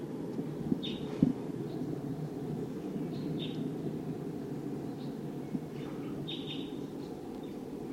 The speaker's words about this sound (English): recording the wild bird. Wild? It sounds like a V-shaped flight call note. Wild bird.